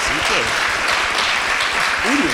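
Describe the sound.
Sustained audience applause, a dense steady crackle of many hands clapping at once, with faint voices and cheers rising through it.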